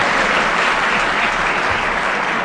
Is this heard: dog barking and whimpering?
no